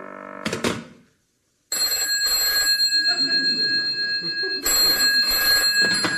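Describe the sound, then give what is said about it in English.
A loud telephone bell rings in long, rattling trills, two rings in a row, following a short clunk and a moment of silence. Nobody speaks. “I just tried calling you and I got the speaking clock.”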